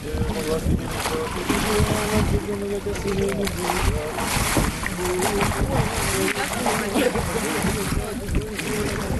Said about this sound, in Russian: Далее, под пение тропаря празднику, с молитвой трижды погружается в воду.